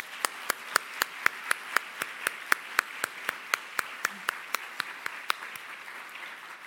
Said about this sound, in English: You've really built an amazing community, so I'd really like to give them a round of applause.